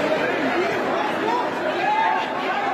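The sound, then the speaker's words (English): A dense crowd at the opening of the first IKEA store in Hyderabad, India, murmurs and chatters continuously as people push and shove, many overlapping voices blending into a loud, steady din with occasional raised calls rising above the roar. “That's the sound of the first IKEA store opening in Hyderabad in India.”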